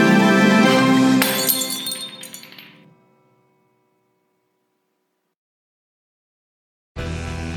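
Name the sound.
glass clinking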